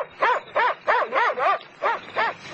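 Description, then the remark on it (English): An Alsatian barks, about seven loud, strong barks in a steady, evenly spaced rhythm, with no voices around it. “Hey, what's that? An Alsatian.”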